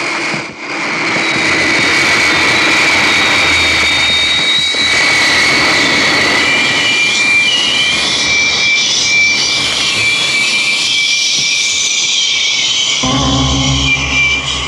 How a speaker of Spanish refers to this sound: Un grupo de velocísimos jets caza han emprendido el vuelo, elevándose por la pista del desierto, detrás del avión robado por Calimán.